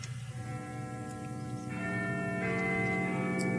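A clock chimes midnight at New Year with deep, ringing bell tones, one stroke overlapping the next as the sound swells louder and hangs in the air, with no voices.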